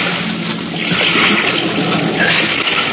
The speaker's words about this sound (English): The impact of the landing threw me against the wall of the fuselage, but a moment later, the sound of water rushing in through the loading doors brought me around fast.